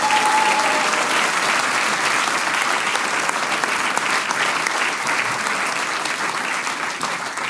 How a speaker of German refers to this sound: Einen Applaus